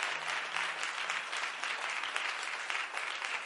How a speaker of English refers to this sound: Oh, y'all ought to clap your hands right there.